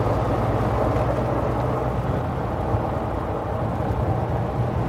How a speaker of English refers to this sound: basically, we're doing about 40 miles an hour, but it feels like hurtling, down a back road out in the country. Hedgerows on either side of us.